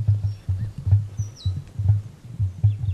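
An emu gives a deep, rhythmic grunting call: low, throbbing pulses repeating steadily for the whole stretch. Faint chirps from small birds sound in the background.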